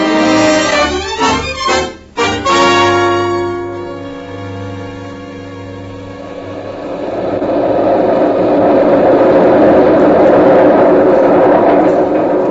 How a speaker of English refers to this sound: That's the new elevated railway train